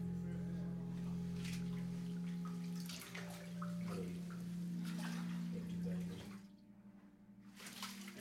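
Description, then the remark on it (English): Water sloshes and splashes in bursts as a person is lowered into a baptismal pool and lifted out during a baptism by immersion, over a steady electrical hum, with a brief quieter pause before more splashing. The water is warm. “I baptize you in the name of the Father and the Son and the blessed Holy Spirit, buried with Christ in baptism, raised to walk in newness of life.”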